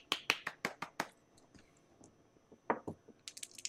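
Sharp, close hand claps in an uneven pattern: a quick run of five, a pause, two more, then a fast flurry at the end, with no talking.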